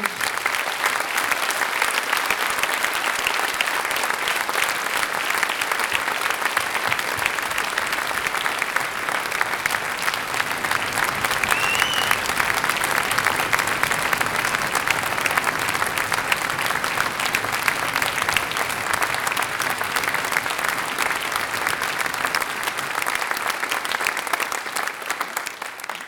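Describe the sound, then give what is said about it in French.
A concert audience applauds their conductor steadily for about twenty-six seconds, a dense, even wash of clapping hands that holds at a constant loudness without any voices standing out. “J'aimerais que vous l'applaudissiez encore ce soir si vous le voulez bien.”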